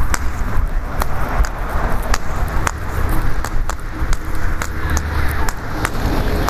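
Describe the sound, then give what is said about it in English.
A car drives along the street with a steady low rumble and road noise, while sharp, evenly spaced footstep-like taps click over it. No one speaks. “I thought that car was slowing down. Nope. Another car coming down the street.”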